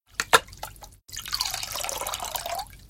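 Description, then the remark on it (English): A few quick drips, then a steady stream of water pouring into a container for sailors to drink, its pitch shifting as it fills, fairly clear with no voices. “Luis gives the sailors some water to drink.”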